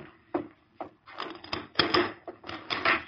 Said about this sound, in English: Rusk opened the door wide.